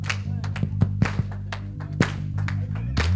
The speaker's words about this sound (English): Yeah, just make it quick and lively, man. Let's clap our hands.